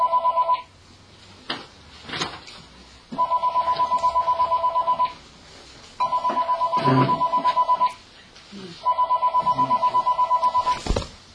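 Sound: mobile phone ringing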